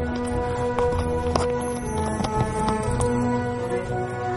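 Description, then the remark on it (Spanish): Horse hooves clop in a steady, irregular rhythm as a horse walks around a woman, with a sustained tonal background, likely music, running underneath. “Un caballo la rodea.”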